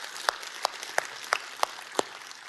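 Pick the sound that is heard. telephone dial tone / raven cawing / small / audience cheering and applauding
audience cheering and applauding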